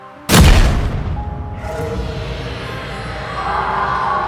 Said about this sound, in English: The entire crew were woken from our beds that night by a sudden, explosive crack, followed by a seemingly unrelenting roar.